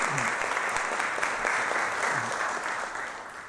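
Steady audience applause at a church worship service, welcoming a guest from FEBC: a dense wash of many hands clapping at an even loudness that tapers off slightly toward the end, with no voices over it.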